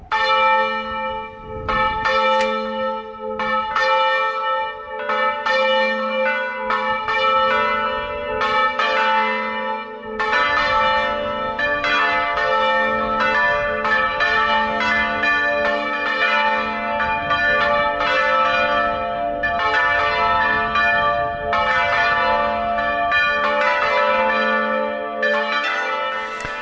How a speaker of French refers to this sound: réécouter ce carillon de l'église Saint-Rémy de Lagarde dans l'Auragais, qui est donc votre carillon. Alors c'est pas vraiment le carillon, c'est les cloches en volée tournante.